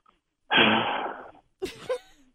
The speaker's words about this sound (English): What's all that breathing